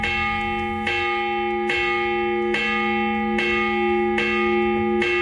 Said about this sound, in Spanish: jo ara et posaré un toc de campana i tu m'hauràs de dir què vol dir aquest toc de campana.